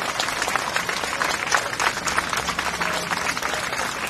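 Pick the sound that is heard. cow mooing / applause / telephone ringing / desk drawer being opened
applause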